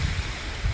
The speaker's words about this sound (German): Ja, ihr hört im Hintergrund einen Bach rauschen. Und ich bin heute im Wald unterwegs.